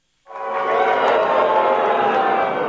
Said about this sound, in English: They're not booing, they're saying, Boober.